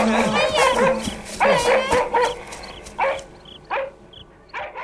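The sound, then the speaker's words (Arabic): Several dogs bark, yelp and snarl in a rapid, chaotic scuffle as a dog fights a pack of stray dogs, loud, with sharp bursts trailing off into shorter yips and whimpers toward the end. “وهكذا يا أصدقائي، استطاع الكلب المسكين الذي كان خالد يحبسه في السرداب، استطاع أن يتغلب على مجموعة الكلاب السائبة ويخلص صاحبه خالد منها.”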